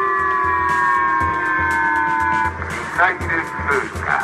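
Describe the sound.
A public missile warning siren in Japan's northern Hokkaido island, set off by North Korea's launch of a missile over Japan, sounds as a steady, sustained electronic tone with a faint rhythmic thumping beneath it, then a loudspeaker voice announces 'missile passing' over it.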